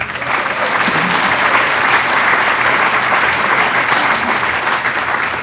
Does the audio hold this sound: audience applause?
yes